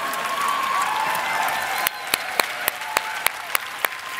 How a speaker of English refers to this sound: Let's not clap up for them. They don't need to be clapped. I'm trying to get, fine, clap, clap.